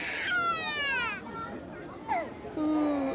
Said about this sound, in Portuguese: A enfermeira apressa-se a examinar o bebê, que não para de chorar